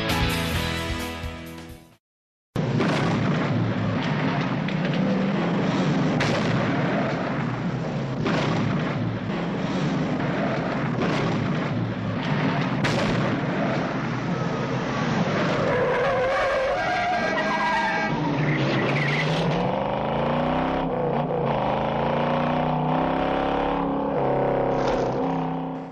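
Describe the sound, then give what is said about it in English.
A loud, dense movie-style car chase: roaring engines, screeching tire skids and crashing booms layered continuously, with a brief silent gap near the start and rising, sliding engine whines toward the end. “Doesn't know what that car chase scene is.”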